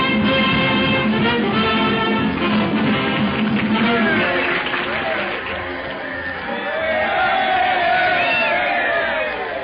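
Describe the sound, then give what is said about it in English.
A loud football crowd, the Flatfoot team's cheering section as the second half is about to begin, cheers and yells continuously, a dense roar of many voices with rising whoops and shouts swelling again toward the end. “Listen to their cheering section.”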